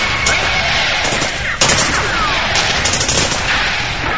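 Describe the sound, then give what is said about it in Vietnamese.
A dense volley of M16 rifle fire from more than 60 soldiers pulling their triggers at once, many guns crackling in a continuous, overlapping barrage with sharp reports standing out, loud, with no one speaking. “Hơn 60 người lính súng mở ô tô đồng lúc bóp cò. Đạn M16 đúng được hàng bộ đội đi đầu.”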